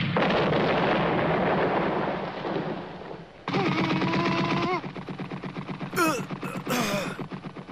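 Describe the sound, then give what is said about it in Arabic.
Heavy gunfire, fired on command, roars in a dense, rumbling barrage, then breaks into rapid, rhythmic bursts of shots, with brief high whining tones cutting through the loud volleys. “أطلق النار.”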